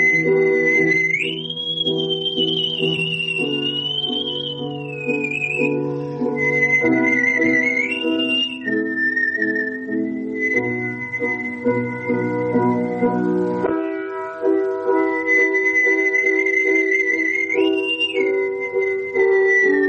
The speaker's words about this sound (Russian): Я входил в образ, исполняя, допустим, Любашу, я проникал с ее страданиями, и свист окрашивался соответственно, эмоционально.